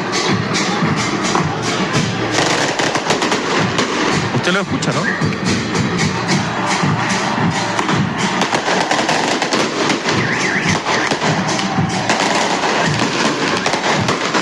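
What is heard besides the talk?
fireworks and firecrackers exploding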